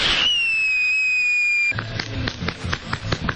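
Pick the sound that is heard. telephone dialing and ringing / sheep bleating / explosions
explosions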